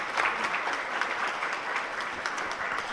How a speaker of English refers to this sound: Let's give a round of applause for a great program.